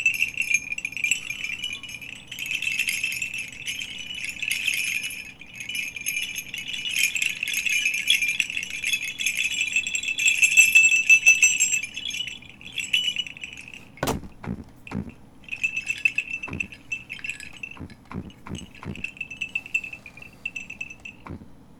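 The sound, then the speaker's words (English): Sleigh bells jingle in a bright, steady shimmer for several seconds, then a series of sharp knocks breaks in while the bells continue in shorter bursts; no one speaks. “I heard the sleigh bells, and I heard him leaning on the roof.”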